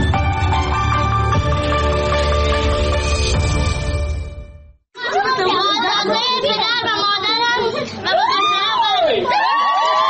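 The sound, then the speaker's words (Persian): Loud, dense festive music plays for a few seconds, then cuts abruptly to a celebrating crowd, close and loud, cheering, shouting and whooping with high, wavering voices overlapping continuously. “جشن ازدواج دختری که گفته می شود 14 سال سن دارد.”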